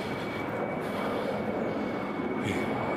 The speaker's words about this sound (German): Ich finde die Flugzeuge ja ganz toll, aber in der Menge nerven sie.